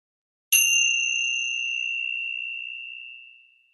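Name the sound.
meditation bell ringing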